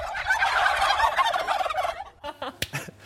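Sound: flock of turkeys gobbling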